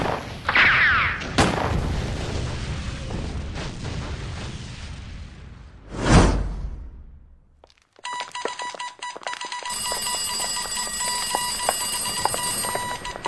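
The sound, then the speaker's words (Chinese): Heavy enemy artillery fire during a battle in northern Fujian: loud booming blasts with a rumbling, crackling wash of noise, one big explosion swelling midway, then a steady shrill electronic ringing takes over. No one speaks. “团长，敌人的炮火太猛烈了，转移吧。”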